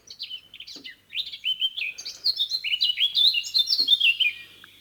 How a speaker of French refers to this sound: Ensuite, on passera quand même à une autre espèce que moi, j'aime beaucoup. C'est la fauvette à tête noire.